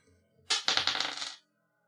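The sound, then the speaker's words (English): A quick dice-rolling sound effect played from a new button: a short burst of bright, rattling clatter with several rapid clicks and bounces, lasting under a second before stopping abruptly. No one speaks. “All right, well, we have a new button now, and that works. Let's roll that dice.”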